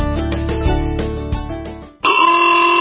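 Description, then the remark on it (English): Loud, sustained car horn blasts: a low, steady blaring honk held for about two seconds, then a brighter, higher-pitched horn cuts in and holds to the end. “Why do I hear honking?”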